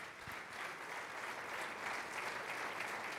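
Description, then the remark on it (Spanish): A church audience claps steadily, a dense, sustained wash of applause that stays even and fairly loud throughout, with no voices standing out. “A Él la gloria, los aplausos.”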